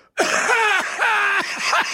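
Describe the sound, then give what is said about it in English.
A heavy, phlegmy cough from a summer cold hacks out in three loud, throaty bursts, each rough and strained with a groaning voiced edge, with brief catches of breath between them and no talking. “did leave the room because I've got this summer cold and I had to hack up half a lung.”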